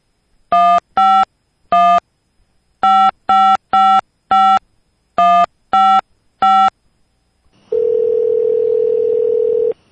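A home phone number is dialed for a prank call: ten crisp touch-tone beeps in an uneven rhythm, then a steady ringing tone on the line as the call goes through. No voices.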